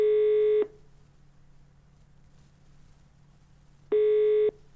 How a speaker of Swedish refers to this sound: Jag ska ringa upp